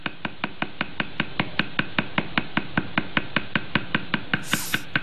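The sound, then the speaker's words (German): A stick hammers steadily on the top end of another stick, to which tattoo needles are tied, for hand-poke tattooing: sharp wooden taps at about five per second, even and unbroken, with a brief high hiss near the end. “Und so ein weiterer dient dann als Hammer, da haut er dann auf das Ende des ersten Stocks oben drauf.”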